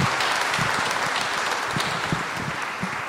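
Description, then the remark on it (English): An audience claps steadily in appreciation of the ministers' spouses, the dense patter of many hands holding an even, fairly loud level for the whole stretch, with no voices rising above it. “So you appreciate the spouses for good work. With that clap.”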